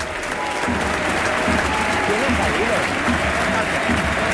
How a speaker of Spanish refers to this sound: Parece que es un momento importante porque van a cambiar a uno de los guerreros. Le aplauden, le jalean por su buen trabajo.